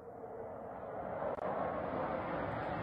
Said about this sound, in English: Those are massive explosions seen from far, and we hear maybe a jet or something that may have dropped this bomb.